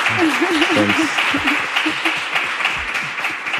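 An audience at a live event at the IAA gives the guest a round of applause, steady and dense, filling the whole clip with many hands clapping at once, with a brief vocal cheer or call rising over it near the start.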